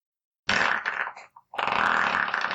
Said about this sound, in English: It feels so good to finally be able to do this disgusting farts again. Yeah. Breathe it all in. Smell it. That's been trapped in there a while, hasn't it?